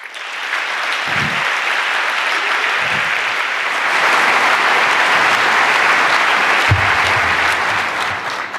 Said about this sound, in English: Please welcome, with an anniversary edition applause,